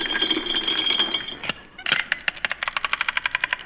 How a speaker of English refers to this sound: Well, we got money. I'll show you. I'll open my wallet.